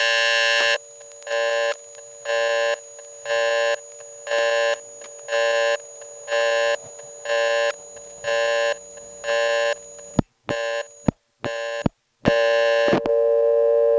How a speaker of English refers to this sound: Well, that had so many nice organic phone sounds in it that it hardly bothers me that that was an example of being cut off from the toll network.